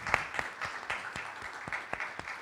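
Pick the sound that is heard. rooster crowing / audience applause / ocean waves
audience applause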